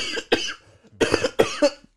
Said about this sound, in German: Jetzt muss ich husten. Oh Gott. Ich sterbe gleich.